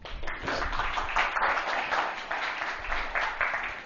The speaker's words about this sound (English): Thank you. Give him a clap.